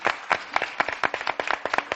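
A crowd applauds, a dense patter of many hands clapping at a brisk, uneven rhythm with sharp individual claps standing out, fairly loud and steady throughout.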